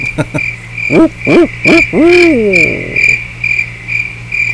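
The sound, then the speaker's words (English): A person imitates an owl hoot, making three short hoots and then a longer drawn-out one, heard clearly over a steady background chorus of chirping crickets. “We'll settle for an owl.”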